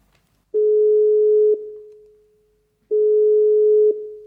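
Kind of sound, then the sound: signal or alarm, phone call ringing tone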